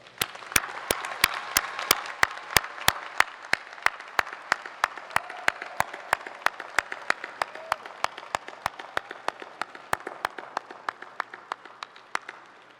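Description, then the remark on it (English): Sustained audience applause at a PhD graduation ceremony, as the candidates rise, turn around and applaud their family and friends: a dense wash of many hands with one set of sharp, steady claps standing out at a regular beat throughout, slowly tapering in loudness toward the end. No voices. “Candidates, would you please rise, turn around, and give your family and friends a round of applause.”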